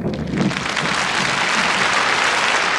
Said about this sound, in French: on va garder les applaudissements pour les mettre derrière